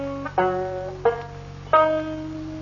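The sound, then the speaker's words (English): A banjo plucks the four notes of the "My Dog Has Fleas" tuning, each struck with a bright twang that rings and fades before the next, spaced at an even, unhurried pace with no voices. “A big book of minstrel jokes and a beautiful banjo. Just listen to this tone.”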